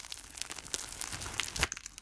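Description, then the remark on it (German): Crisp crackling of a baguette's extremely crunchy crust, coated with a marinade and tasting of sea salt and fresh black pepper, being broken: a dense run of sharp, dry snaps and crinkles over about two seconds, with one louder crack near the end and no talking. “Und dann kriegt man so eine extrem knusprige Kruste, die halt nach Meersalz und nach frischem schwarzem Pfeffer schmeckt.”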